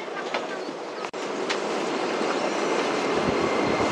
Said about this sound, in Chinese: 欢迎乘坐地铁十号线列车，列车运行前方是太阳宫站，下车的乘客请提前做好准备。